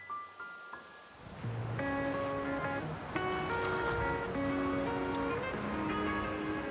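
A steady wash of waves and boat noise in the fishing harbour of Fécamp, set between white cliffs, as a traditional spiny-lobster fishing boat casts off for a trip. The sound starts quieter, then rises to a constant, fairly loud rush, with melodic tones layered over it and no talking.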